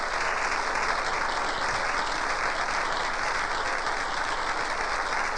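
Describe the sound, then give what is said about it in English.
Sustained applause from a large audience clapping for people streaming down the aisle, a steady dense wash of clapping hands that stays even in loudness throughout, with no voices standing out. “Let's clap for them.”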